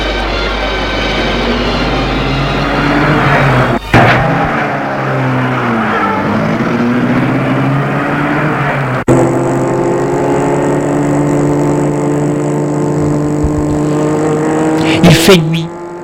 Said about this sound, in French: Et à peine le temps de réagir que la voiture se met en route.